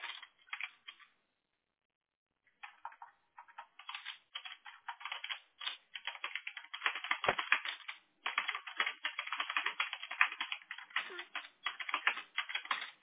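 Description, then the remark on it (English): Rapid, forceful clacking of computer keyboard keys as a person types notes on a customer account, fairly loud, with a short pause near the start before a dense, continuous burst of typing that runs to the end. “You probably hear me typing all fast and hard.”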